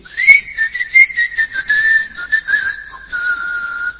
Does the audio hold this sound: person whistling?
yes